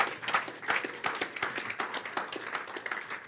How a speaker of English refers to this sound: Clap for the Lord Jesus Christ.